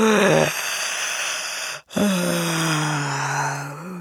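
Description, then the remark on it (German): A human voice imitates the yawn of a huge hippo: a short gasp, a brief pause, then a long, loud, drawn-out groaning moan that sinks in pitch and fades at the end. “hinter dem Stein ein riesengroßes Nilpferd kommt. Es gähnt heftig.”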